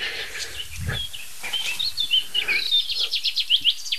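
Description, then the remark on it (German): A pipit perched overhead sings a bright, finch-like song of rapid chirps and short trills that could be mistaken for a greenfinch, with a low thump near the start and no talking. “Die Piper klingt finkig.”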